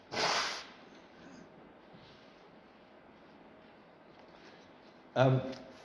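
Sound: person blowing their nose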